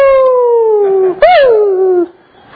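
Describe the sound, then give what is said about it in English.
A person imitates the whine of a 12-year-old dog that can hardly see, at 2 o'clock in the morning: two drawn-out, nasal, descending whimpers, the second rising briefly before sliding down. Fairly loud, with no other sound around it. “And then if you're like me in 2 o'clock in the morning, 4 o'clock in the morning, we're dog sitting for my in-laws.”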